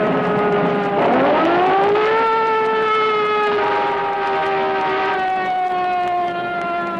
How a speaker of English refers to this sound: Some motorists still are not aware that a police siren means the cruiser needs the right of way. In this case, to get out of a traffic jam, the constable had to also use a blast of his horn.